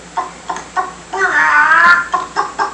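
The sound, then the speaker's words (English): Several chickens cluck in short, clipped bursts, with a longer drawn-out squawk in the middle; the birds sound fairly loud, with no talking. “What a coop full of chickens.”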